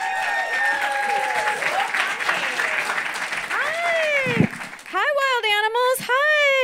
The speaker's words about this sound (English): Ladies and gentlemen, start clapping right now. Get that energy up for Melanie Vesey.